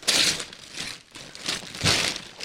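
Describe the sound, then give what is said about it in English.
Santa-print gift wrapping paper crinkles and tears in several loud bursts as a present, a bread pillow, is unwrapped, with a short pause between rustling handfuls and no one speaking. “And the Santa paper is from 2 years ago.”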